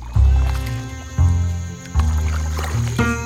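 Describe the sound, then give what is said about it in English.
A paddle wheeler boat churns through thick cattails and thick fog with a deep, rhythmic thumping, four heavy strokes over a steady low hum, fairly loud, with no voices. “For some time now, we've been pulling this paddle wheeler through thick cattails and thicker fog.”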